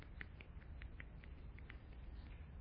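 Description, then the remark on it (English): An audience stamps their feet in a steady, continuous rumble, with light patter on top, imitating the sound of a rainstorm. It is muffled, and no one is talking. “Then, in addition to the rain falling, you got to use your feet now, started going like this.”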